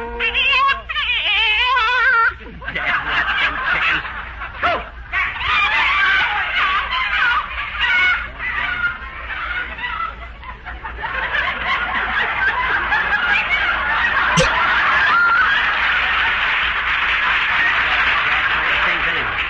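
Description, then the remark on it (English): A frantic flock of chickens squawks and clucks nonstop, loud, a dense overlapping racket of cackles that swells rather than fading. “Playing tag with them squawking egg factories”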